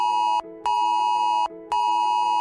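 A loud, harsh electronic emergency alert tone from a mobile phone blares in a repeating pattern: a long buzzing blast, a brief drop to a lower pitch, then the blast again, with no voices.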